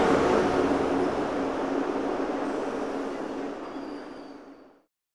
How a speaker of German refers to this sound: Achtung an Gleis 2. Es hat nun Einfahrt, der verspätete ICE 567 von München nach Hamburg-Altona. Die Wagen der ersten Klasse halten im Abschnitt A, die Wagen der zweiten Klasse in den Abschnitten B bis D. Bitte Vorsicht bei der Einfahrt des Zuges.